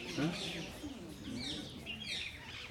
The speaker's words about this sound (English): That's all Brindadevi's parrots are talking.